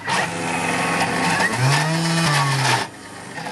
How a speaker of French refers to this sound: Je prends mon chou-fleur. J'ajoute, j'ai mis dans le mixeur, je mixe tous ces ingrédients ensemble. La crème de sésame avec les yaourts à la grecque, le citron.